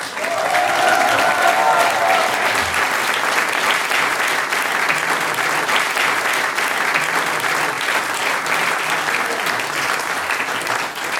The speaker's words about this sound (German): Der nächste Applaus geht an Weststeirisch zusammengewürfelt.